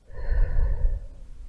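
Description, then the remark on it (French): A single soft, breathy exhale, airy and low, fading out after about a second with no talking, as part of a slow, calming breathing exercise. “Vous inspirez la réussite et vous expirez les contraintes, les doutes.”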